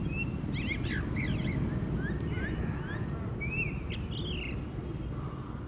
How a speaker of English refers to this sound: You'd so often hear birds. You just even get one or two trees on an otherwise really barren street and you get birdsong. But it always seems to be struggling to make itself heard against all the traffic.